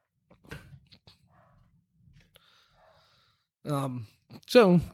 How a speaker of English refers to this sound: And pardon, we've got some dogs firing up on our thunderstorm downstairs.